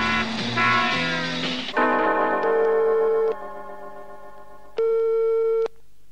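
A telephone ringing tone sounds on the line as Commissioner Maigret of the criminal police calls Madame Rouseletová, two steady electronic buzzes about a second or more each, separated by a pause, with a muffled clatter of noise just before.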